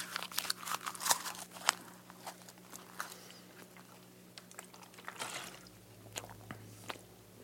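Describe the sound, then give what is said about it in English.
Wet chewing of a dense wad of paper, a book page torn lengthwise into pieces and rolled up like a chaw of tobacco: irregular crunchy and squishy bites, busiest in the first two seconds, then slower, softer mastication with a low hum underneath. No talking. “I roll them up, you know, into almost like a chaw of tobacco, and then just start to chew.”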